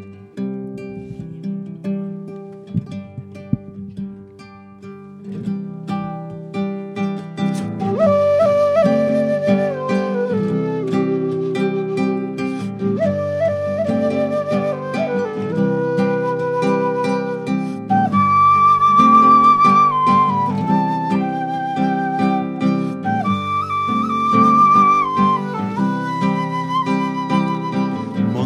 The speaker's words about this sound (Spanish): una chacarera que cuenta la historia de un compadre, el Germán Falfán, dice así.